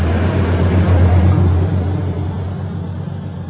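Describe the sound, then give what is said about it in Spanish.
A car engine runs steadily, a low, continuous rumble with a droning hum that eases off slightly toward the end. No voices are heard. “Oye, me voy porque ahí está mi carro, chao.”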